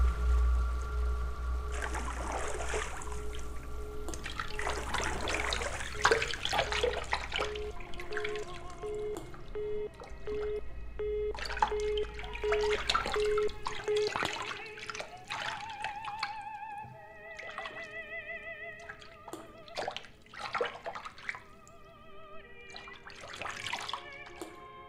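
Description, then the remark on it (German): Water sloshes and splashes, with scattered drips and small plinks, as someone lies in a bathtub filled with warm water; a faint steady tone hums underneath and no one speaks. “Ich liege in der Badewanne.”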